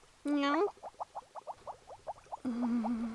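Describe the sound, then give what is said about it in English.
A short rising vocal tone gives way to a steady, rhythmic run of soft purring pulses, then a sustained humming tone. Fairly quiet, with no talking. “Aw, you're cute when you purr.”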